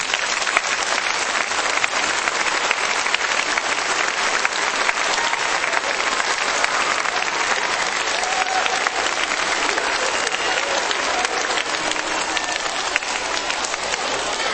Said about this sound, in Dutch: En ik denk dat we nu wel even iedereen die hier mee gewerkt heeft een applaus mogen geven.